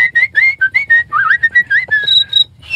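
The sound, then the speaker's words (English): A person whistles in a quick series of short, clear notes, some sliding up and down in pitch, as the first part of imitating a cricket chirp, with a low steady hum underneath and no talking. “I can just show you how to do the cricket sound. It's really pretty simple. Okay, let's learn how to do it. So it just starts with a whistle, which is a.”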